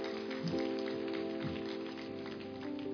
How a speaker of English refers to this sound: Those who are part of that, just give me that wave offering. Then use the second hand to give a clap offering. Amen. Praise the Lord.